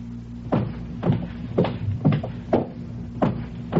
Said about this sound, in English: Footsteps.